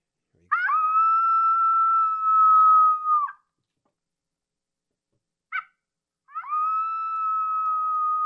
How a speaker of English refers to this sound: What is this coyote saying or doing?